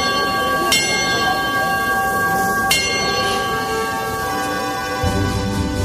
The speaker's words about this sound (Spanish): Correcto, pues del sonido de un llamador al sonido de una campana.